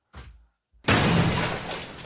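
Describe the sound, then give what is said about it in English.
A short muffled knock, a brief silence, then a loud, harsh crash of a heavy washing machine, thrown off a ledge by a man on Paddy's Day, smashing down, with shattering and clattering debris that roars on for over a second. No voices. “That's a washing machine he threw off the edge there.”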